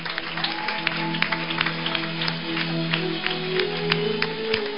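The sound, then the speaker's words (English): A large audience claps steadily together for Jesus at a prayer service, a dense stream of sharp claps lasting the whole moment, with a low sustained hum of instruments or room noise underneath. “Everybody, clap for Jesus.”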